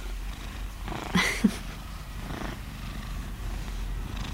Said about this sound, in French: C'est une boîte à ronron.